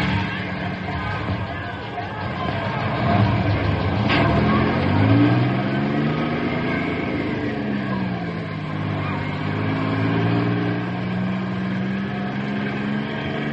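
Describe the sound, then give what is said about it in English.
A bus engine rumbles and revs up, its pitch rising and falling as the bus pulls away carrying a group of boys, with a murmur of crowd noise underneath. “Double time into the bus.”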